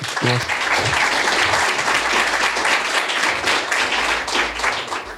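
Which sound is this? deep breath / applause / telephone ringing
applause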